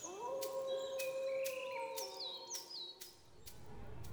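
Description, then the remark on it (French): A long, steady wolf howl in a forest holds one pitch for several seconds and then fades, while sharp bird chirps and tweets ring out above it in the background. “Dans la forêt, elle se retrouve nez à nez avec des loups.”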